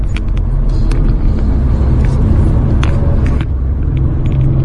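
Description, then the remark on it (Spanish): A three-cylinder car engine drones steadily while driving, a loud low rumble with faint road noise and occasional light ticks over about five seconds, with no one talking. “Sí, lo que veo que en este tipo de coches de tres cilindros, por lo menos en esto, el conducir con reduciendo con el motor lo veo más complicado.”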